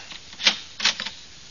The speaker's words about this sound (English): Uh-oh. The door done closed. It's locked.